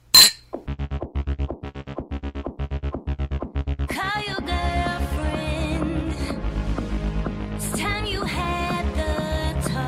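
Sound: glasses clinking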